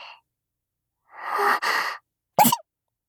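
A single sneeze, close and fairly loud: a drawn-out breathy inhale builds for nearly a second, then a sharp explosive burst cuts off quickly, with no talking around it.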